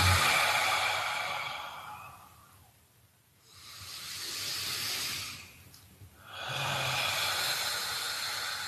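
Slow, deep breathing, in through the nose and out through open lips: long airy inhales and exhales, with two brief quiet pauses between breaths, a steady breathy hiss and no talking.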